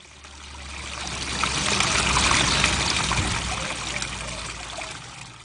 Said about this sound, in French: la pluie se mit à tomber, doucement d'abord, puis ensuite à torrents. Les ruisseaux s'enflèrent, et quand la terre desséchée eut bien bu, il se forma de petites mares d'eau dans lesquelles les gouttes de pluie sonnaient comme des clochettes.